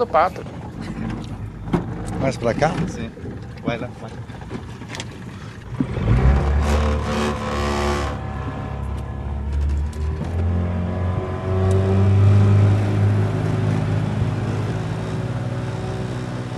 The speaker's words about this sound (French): Donc là, on vient de prendre le bateau sur la rivière Uraricuera. On vient de quitter la communauté de Huaycas et on se dirige vers un barrage de l'armée.